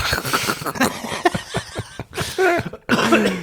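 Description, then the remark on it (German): A few small, short coughs coming in quick uneven bursts with brief throaty, voiced edges between them. “Du hast ein kleiner Husten, hä?”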